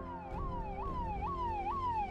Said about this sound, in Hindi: वो भी इतना बोलकर हटा ही था कि उन चारों को पुलिस के सायरन की आवाज सुनाई दी।